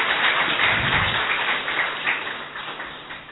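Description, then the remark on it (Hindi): An audience claps steadily to welcome and thank Usha Didi after her talk, a dense patter of many hands that stays loud throughout and fades slightly toward the end, with no voices standing out. “धन्यवाद करते हैं हम आदरणीय उषा दीदी जी का, इसलिए हम सभी तहे दिल से तालियों से स्वागत करेंगे।”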